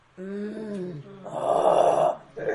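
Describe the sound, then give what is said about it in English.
A person imitates a lion growling as it gnaws on its bone: a low, drawn-out voiced moan that sinks in pitch, then a harsh, raspy roar, and a brief gravelly start of another growl at the end. “You hear these growls.”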